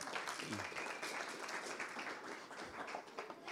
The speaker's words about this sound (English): But I need two other volunteers, two other treasure hunters. Okay. Yep, you and you. So give our treasure hunters a bit of a clap.